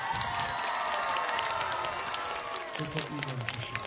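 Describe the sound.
A large audience at a Christian worship event applauds and cheers for Bishop Antoni Długosz of Częstochowa, a dense, steady wash of clapping with excited shouts and voices rising through it for the whole stretch, loud.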